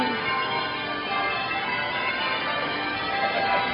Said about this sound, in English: I think these bells just pealing out just make the evening.